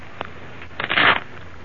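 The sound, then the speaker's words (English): A quick riffle of playing cards being shuffled, a brief papery flutter lasting under half a second, preceded by a single light tap, with no voices. “Shuffle them, would you please,”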